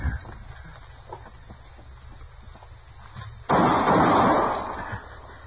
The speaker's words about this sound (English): How'd you know he was going to shoot, Matt? Well, I just sensed it, I guess.